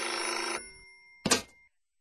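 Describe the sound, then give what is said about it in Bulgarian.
A telephone bell rings in a sustained metallic burst, stops, then gives a second short ring after a pause. Fairly loud, with no voices. “Звъни като от чужбина.”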